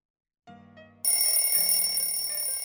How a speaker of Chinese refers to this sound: 闹钟的声音将林少荣唤醒